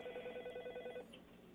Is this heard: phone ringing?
yes